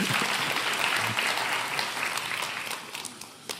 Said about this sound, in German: Ein Applaus für so viel Hilfsbereitschaft.